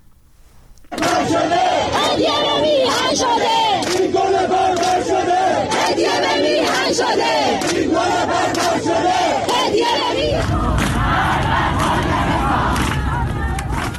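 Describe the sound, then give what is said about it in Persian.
A large crowd chants protest slogans in loud, rhythmic unison at the 40th-day memorial for Hamidreza Rouhi, killed in the recent protests, held on Thursday at Behesht-e Zahra cemetery in Tehran, Iran. Voices rise and fall in repeated phrases, the roar growing rougher and noisier toward the end. “ویدیوهای منتشر شده در شبکه‌های اجتماعی نشان می‌دهد مراسم 40 حمیدرضا روحی از کشته شدگان اعتراضات اخیر روز پنجشنبه در بهشت زهرای تهران با سر دادن شعارهای اعتراضی و حمله نیروهای حکومتی به آنها برگزار شد.”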